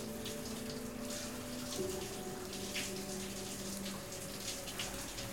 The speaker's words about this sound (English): She faces the showerhead and leans her hands against a wall over her head. Water falls down her back.